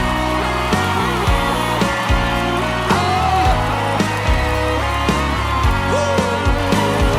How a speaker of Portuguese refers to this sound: gente, uma salva de palmas.